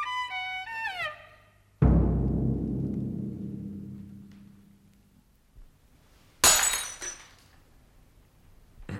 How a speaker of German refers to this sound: Sie haben das Glas fallen lassen, Herr Doktor.